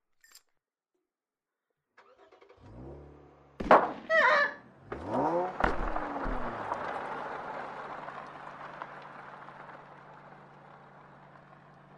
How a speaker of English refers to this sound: hit the shooter with a car